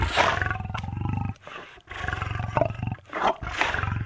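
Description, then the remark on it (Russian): A tiger roars loudly, three deep, rumbling growls in quick succession with brief pauses between them, with no voices present. “«Человеческое дитя, я тебя съем!» — произнес тигр.”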